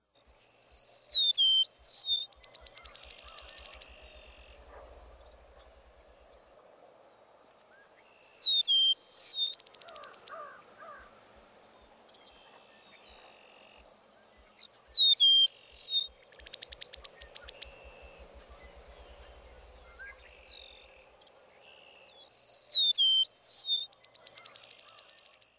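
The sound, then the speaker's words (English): A meadowlark sings four times, each song a pair of clear downslurred whistles ending in a rougher, guttural phrase, with quiet gaps between. A soft, steady insect trill runs underneath. “The song typically includes two downslurred whistles. Also, listen for a distinctive guttural phrase at the end of the meadowlark song.”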